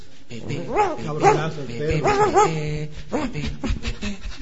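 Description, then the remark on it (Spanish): An excited dog whimpers and yips, letting out a quick run of high, rising whines and short barks, with muffled voices faintly in the background. “Zaplan, está un poco excitado”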